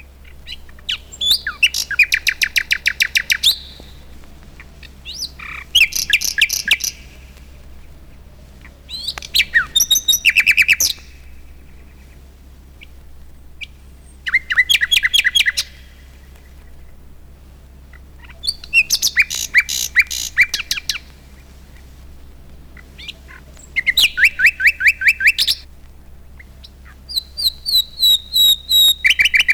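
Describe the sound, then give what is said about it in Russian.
Western nightingale song: repeated bursts of rich trills, whistles and rapid chattering phrases separated by short pauses, clear, with no talking. “Сейчас я включу запись западного соловья. Песенка его округла, нежна, даже несколько меланхолична.”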